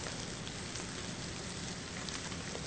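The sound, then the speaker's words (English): Steady sizzling and crackling of vegetables roasting for about 30 to 35 minutes, wilted down and caramelized on top, a dense hiss full of tiny pops and spits that holds at an even level for the whole stretch, with no voices. “You can hear them sizzling.”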